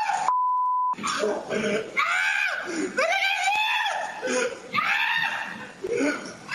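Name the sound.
man screaming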